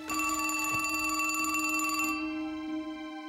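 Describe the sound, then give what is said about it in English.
A telephone bell rings steadily with a bright, metallic jangle, loud, then abruptly stops, leaving a fading ring. No voices are heard. “About 8:30 that evening, she called me on the phone.”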